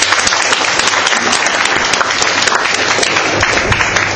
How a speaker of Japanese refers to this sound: 長時間ありがとうございました。もう一度盛大な拍手を持ってコメントをお願いします。